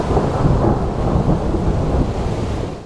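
A loud, continuous rumble of rolling thunder with a steady wash of rain underneath, deep and sustained throughout with no voices present.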